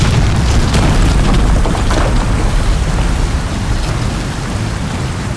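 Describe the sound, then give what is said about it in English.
A heavy, continuous roar of water pouring down into mine tunnels as though from a great height, crashing without pause, loud and rumbling with deep low-end weight and a broad hiss above, steady for the whole stretch with no voices. “We could hear the water pouring down as though from a great height.”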